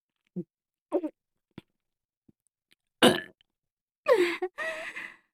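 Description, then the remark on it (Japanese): Several burps, starting with a few small short ones and building to three longer, louder, gurgling belches near the end, with brief silences between and no talking. “下品なゲップじゃ。”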